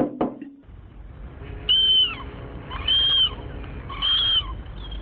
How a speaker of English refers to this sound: I wonder what the gulls are saying to us. I think they're probably welcoming us to Seattle tonight, hoping that we find what we're looking for.